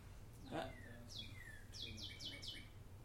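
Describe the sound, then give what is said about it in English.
A bird chirps in short, sweeping calls, ending with a quick run of four repeated descending notes, fairly faint over a low background hum. “That's a bird.”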